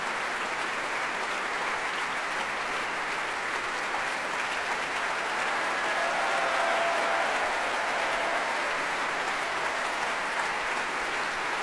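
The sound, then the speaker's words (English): Sustained, dense applause from an orchestra and audience for Sunuk Kim after a Beethoven piece, at the BBC Proms, with conductor Kirill Karabits clapping on his podium and the orchestra coming to their feet; a steady wash of many hands clapping that swells slightly partway through, with faint cheers and no speech over it. “Conductor Kirill Karabits is waving his baton in the air and clapping, as conductors do, on his podium, and the orchestra applauding Sunuk Kim as well and coming to their feet.”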